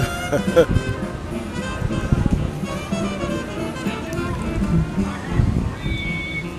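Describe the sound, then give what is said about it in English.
The engine of the Mark Twain boat drones steadily on a river, a low continuous rumble with a faint hum above it, while muffled voices talk. “He had to live this long by not knowing when it's time to get out of the way of the boat.”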